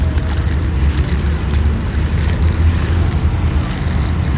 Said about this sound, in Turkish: Oradan bir arabalar geliyor.